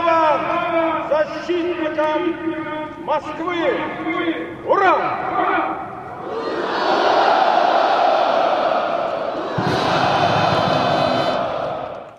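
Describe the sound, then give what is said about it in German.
Amplified voices boom with heavy echo across Red Square in Moscow during a military parade of thousands of soldiers, then a large crowd roars in sustained unison cheers, swelling loud and continuous for several seconds. “an der schließlich Tausende von Soldaten über den Roten Platz defilierten. Nicht mehr unter sozialistischen, jetzt unter veränderten politischen Vorzeichen und trotzdem zu einem Jubel, der stark an jenen der sozialistischen Jahre erinnerte.”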